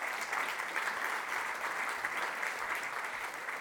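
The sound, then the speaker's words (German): An audience claps steadily for a woman's short testimony, a dense, even wash of many hands with no pauses and no voices on top. “Gebt ihr doch einen Applaus, weil ich finde, das ist mega super.”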